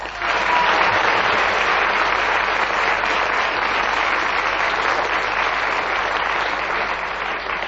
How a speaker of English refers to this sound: that resounding round of applause from our audience shows that they not only enjoyed what you said, but the fact that you kept going to the whistle went and kept another point.